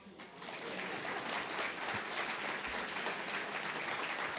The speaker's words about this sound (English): So first, I'll tell you the name. Please give a warm initial round of applause to this year's honoree,